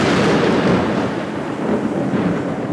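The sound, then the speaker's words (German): A thunder sound effect: a deep, sustained rumble of thunder rolls loudly and continuously for a few seconds, broad and booming with no voices over it. “Ach ja, doch, der Donner hat gefehlt, all die Jahre.”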